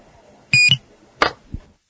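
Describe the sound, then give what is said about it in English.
A weather radio alert gives its fourth beep, a short, loud, high-pitched electronic beep as the alert shuts off, recorded on a tape recorder with the volume turned way up, followed by two quick mechanical clicks of its button being pressed and held; otherwise quiet. “The third one is the siren, and the fourth one, the alert is back off.”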